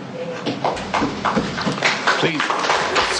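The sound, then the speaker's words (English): Scattered applause breaks out in a courtroom after a murder victim's sister addresses the defendant, Ridgway, a steady patter of many hands clapping for a few seconds, with voices murmuring underneath. “Please refrain from applauding. It's inappropriate in a court proceeding.”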